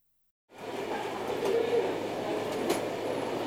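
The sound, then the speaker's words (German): A train rumbles steadily in Oerlikon station, where it is held for an indefinite time by an overhead line fault, after a brief silence, with a continuous low mechanical hum and faint metallic squeaks and clatter over a broad, noisy background. “Wegen eines Fahrleitungsdefekts bleibt dieser Zug für unbestimmte Zeit im Bahnhof Oerlikon.”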